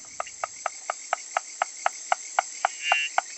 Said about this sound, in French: Alors celle qui toque à la porte là en ce moment, c'est la grenouille à moustache, car elle a une petite moustache blanche de chaque côté de la bouche.